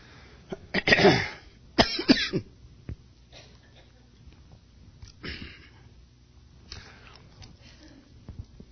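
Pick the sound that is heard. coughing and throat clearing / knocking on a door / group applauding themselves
coughing and throat clearing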